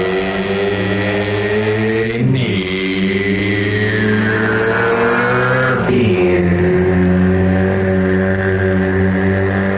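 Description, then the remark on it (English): A motorcycle engine in a beer commercial drones loudly, holding a steady rev with two brief dips around gear shifts before climbing again. No one speaks. “I think it might be referencing the Rainier Beer, which is like a motorcycle.”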